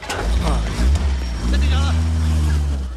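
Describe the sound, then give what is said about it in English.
A heavy lorry engine rumbles loudly on a busy Hong Kong street with market stalls, then revs and pulls away, its low drone steady and rising slightly in pitch. A voice speaks over the engine noise. “The lorry drives off.”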